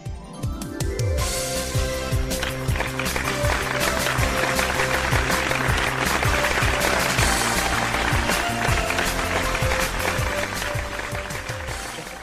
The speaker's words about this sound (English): That's as lively as a crowd as you'll get at Mania.